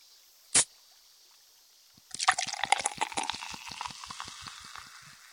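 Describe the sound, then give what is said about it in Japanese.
A brief sharp hiss, then after a pause carbonated water is poured for soaking a cotton swab, followed by a dense, steady fizzing crackle of bubbles, fairly loud, with no talking. “ちょうどここに炭酸水があるので”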